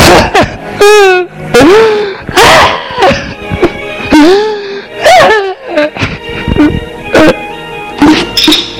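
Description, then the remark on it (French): A girl who has locked herself in her bedroom after classes screams and wails in loud, anguished bursts with swooping pitch, broken up by sharp crashing thuds of objects being thrown to the floor. “Là, on entend hurler, jeter à terre des objets.”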